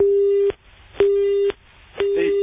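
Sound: telephone busy tone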